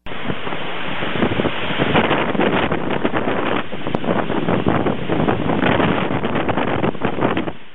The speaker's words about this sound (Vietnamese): Tuy trời chẳng mưa, nhưng bị luồng gió biển thổi mạnh vào, làm chúng tôi cũng muốn ngất ngư.